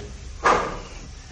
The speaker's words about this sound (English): Is there somebody else here with us? No. No. We done heard the door open.